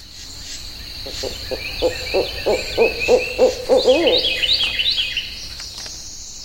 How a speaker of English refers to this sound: It's a National Audubon Society sanctuary in southwest Florida. Here's audio taken in May of 1999. You can hear frogs and insects and birds, red-winged blackbirds, cardinals, blue herons, great egrets. The list goes on.